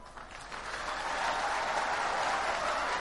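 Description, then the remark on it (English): A church audience applauds steadily, many hands clapping in a dense, continuous patter that swells over the first second and then holds loud and even, with no voices standing out. “Because your body is used to sitting down after clapping.”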